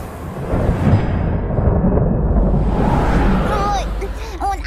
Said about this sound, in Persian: طوفانی دارن به سمت ما حرکت میکنن، شاید بهتر باشه برگردیم خونه.